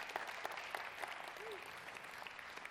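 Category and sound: crowd, audience clapping hands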